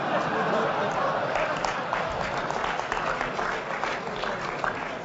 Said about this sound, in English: Oh, so that one gets applause. Great.